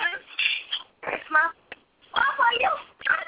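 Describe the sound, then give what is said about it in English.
Indistinct voice chatter in several short bursts with brief gaps between them; the words can't be made out, and the sound is thin and muffled, lacking any crisp high end. “There's somebody in the background talking.”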